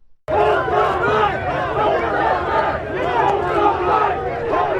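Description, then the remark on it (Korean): A large crowd of counter-protesters in Washington chants anti-racism slogans against a racist rally, many voices shouting loudly and continuously in a rough rhythmic cadence, starting abruptly after a brief silence and holding steady throughout. “네, 이날 맞불 시위에 참여한 사람들이 외치는 구호 소리 잠시 들으셨는데요.”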